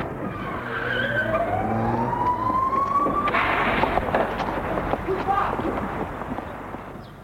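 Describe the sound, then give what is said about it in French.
A police car siren wails upward in one long rising sweep over rumbling traffic noise, then cuts off into a rush of engine and road noise that fades away. “On le met dans une voiture de police.”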